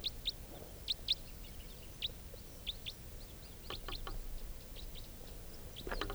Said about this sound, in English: Recording the wild bird coming in.